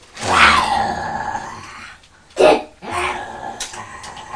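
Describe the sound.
A person playfully imitates a lion, giving a long, rough roar, then a short sharp burst and a rumbling growl, loud with no other talk.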